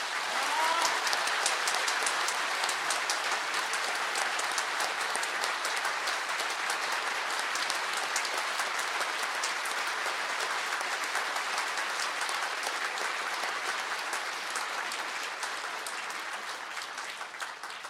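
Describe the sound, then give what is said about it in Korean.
Sustained applause from a church audience as a commemorative gift is presented to the pastor for 30 years of service, a dense crackle of many hands clapping steadily for about eighteen seconds, loud throughout and tapering slightly at the end, with no voices standing out. “제가 그 증정을 해드릴 때 우리 뜨거운 마음을 다 같이 박수로 전하시기 바랍니다.”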